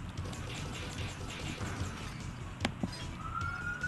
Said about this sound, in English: There's that siren again. Yeah, well, that's like, an actual, like, police siren. That's what happens when you stream outside.